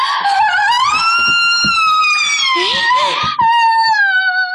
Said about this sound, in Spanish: ¿Fue … quien gritó?